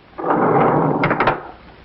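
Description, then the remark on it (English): A rumbling, rolling slide lasting over a second, ending in a few sharp clacks, as a sound-effects man slides grooved roller skates along a track to mimic elevator doors opening and closing. “And now the most difficult of all sound effects to achieve, the opening and closing of elevator doors. He slides grooved roller skates along a track.”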